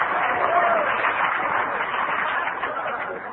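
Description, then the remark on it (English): An audience claps steadily after a performer's story, a dense, even patter of many hands that holds at a moderate level without pause for the whole stretch, with laughter and a faint murmur of voices mixed in. “Only the Al-Anons were clapping.”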